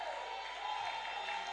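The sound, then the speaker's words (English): An audience shouts and claps in jubilation to God, a steady, dense roar of many voices that holds at an even level throughout, with no single voice standing out. “Can you shout and clap in jubilation to God?”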